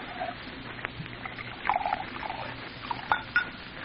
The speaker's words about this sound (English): Want a drink, mister? Sure. What'll it be? Yours? Bourbon. You pour. I don't know when to stop.